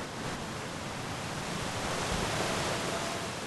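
A steady, full rush of Illinois River water pouring over a natural underwater ledge about 4 miles south of downtown Siloam Springs, a dense continuous roar with no pauses and no voices.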